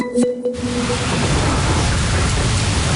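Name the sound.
heavy rain pouring down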